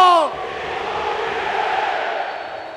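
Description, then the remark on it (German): A single voice calls out the goalscorer's name with a falling pitch, then the sold-out crowd of 66,000 at a Borussia Dortmund match roars back "Ciro Immobile" in unison after his 1:0 goal, a dense, steady wall of cheering that holds loud to the end. “Man muss ja ganz ehrlich sagen, also dieses, wenn das Stadion schreit, Ciro Immobile, das ist eine viel schönere Melodie als die Champions League-Hymne.”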